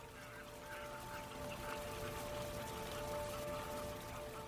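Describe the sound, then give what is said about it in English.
A flock of about eight eiders chases clumsily off across a river, a steady wash of splashing across the whole stretch as they patter and beat over the surface, with a faint tonal hum running underneath. “A flock of about 8 eider geese chase clumsily off.”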